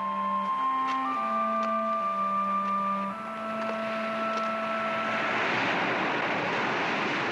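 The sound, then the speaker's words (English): Sea and wind sounds played backwards and mixed by filmmaker Benacerraf for a scene at a seaside cemetery in her film: steady droning tones shift pitch over a hissing, surf-like wash that swells and grows denser toward the end, with no voices. “Benacerraf took sea and wind sounds, played them backwards, and then mixed them.”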